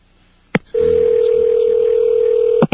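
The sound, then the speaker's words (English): A payphone dial tone at a supermarket as a call is placed: after a sharp click, a steady, loud, unbroken low hum holds for about two seconds, then cuts off with a couple of clicks. No one speaks. “Right now, I'm trying a payphone, and I can tell it's a payphone.”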